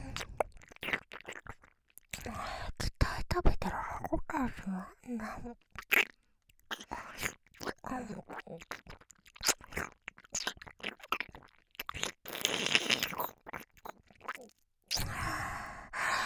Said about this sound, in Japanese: お姉さん食べてる音ちゃんと聞いてね。